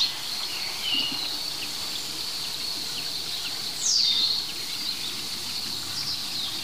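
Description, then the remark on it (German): A very small woodpecker, the fourth woodpecker species heard, gives a short, high, downward-sliding, slow 'kiek' call partway through, clear over a steady shrill hum of insects and faint background birdsong in an otherwise quiet woodland. “Das ist wiederum ein anderer Specht. Ein ganz kleiner Specht.”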